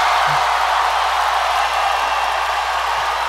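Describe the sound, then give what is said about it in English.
A large crowd cheers wildly as a little bird flies up onto Bernie's podium, a loud, unbroken roar that holds steady for a few seconds, dense with no clear individual voices. “Oh, and now the bird flew up on the podium, Joey, and the crowd goes insane.”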